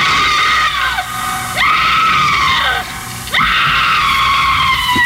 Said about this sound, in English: She raises the knife and with each plunge of the knife into his body, she screams.